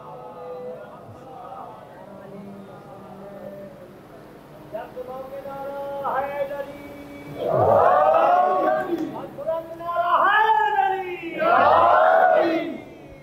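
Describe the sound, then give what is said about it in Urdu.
A large crowd recites salawat on Muhammad and the family of Muhammad aloud in unison, rising in loud, rhythmic bursts of massed voices, three swelling waves after a softer murmuring start. “ایک دفعہ اور مل کے بلند تر صلوات بھیجے محمد و آل محمد.”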